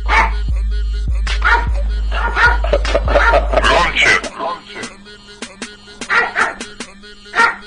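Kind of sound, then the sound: animal, dog barking on command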